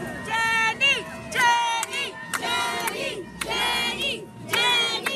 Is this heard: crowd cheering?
yes